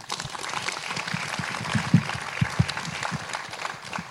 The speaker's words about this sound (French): En tous les cas, merci. On peut l'applaudir.